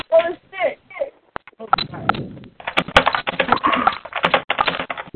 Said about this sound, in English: What is that noise? Somebody write on the sounds like typing. What is going on?